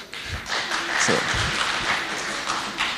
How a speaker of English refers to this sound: Can we have a round of applause for him, please?